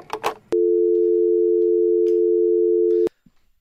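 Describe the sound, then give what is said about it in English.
A brief clatter as a telephone handset is hung up after a call, then a steady, loud dial tone hums for about two and a half seconds before cutting off abruptly, followed by faint background noise. “I'm hanging up the phone.”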